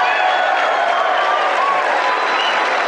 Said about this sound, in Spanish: Un aplauso para los caballeros.